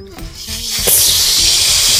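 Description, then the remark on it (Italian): Several voices imitate a snake, producing a loud, sustained high-pitched hiss that swells after a brief moment of low murmuring and holds steadily for over a second. “Mi fate sentire il suono del serpente?”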